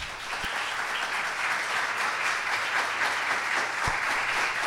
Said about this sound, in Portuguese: Então eu queria pedir o aplauso de vocês